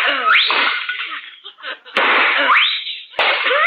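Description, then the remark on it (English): Two sharp gunshots crack a little over a second apart, shooting two china pheasant figurines, each set amid a dense, noisy clatter like porcelain shattering, with brief rising whistling sweeps mixed in. “Oh, you shot those two China pheasants.”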